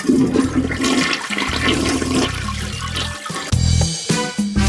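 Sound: toilet flushing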